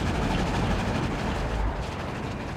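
A train from Hoboken, New Jersey, with an extra attached carriage with darkened blinds, rolls steadily along the rails heading to the southern USA, a continuous low rumble with a broad rattling wash over it, loud throughout.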